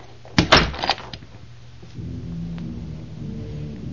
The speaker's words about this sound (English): Slowly, Meir Anshel went towards the door and left the room, closing the door behind him.